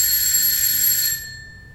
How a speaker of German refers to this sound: Okay, ich habe die 4 gefunden. Ich gehe hin und klingel.